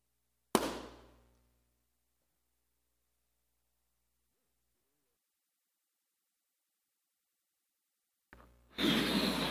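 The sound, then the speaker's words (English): A balloon popped with a safety pin bursts with one loud, sharp pop that rings briefly and fades, then a long stretch of near silence before a wash of broad, rushing noise rises at the end. “I'm going to pop that balloon with this safety pin.”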